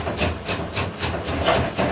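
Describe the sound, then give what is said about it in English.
A knife chops small pieces of fruit very finely, rapidly and steadily on a cutting board, about eight sharp, even knocks in two seconds, with no voices. “We chop all this little piece of fruit into very fine, the finer the better.”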